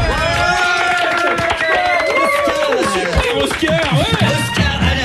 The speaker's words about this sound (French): Voilà, c'est coupe du jour, on va s'applaudir bien fort.